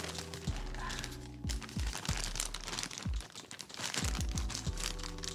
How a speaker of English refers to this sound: See how long it takes Mom to open up a package without any scissors or anything. Hear how long it takes Mom to open a package, right?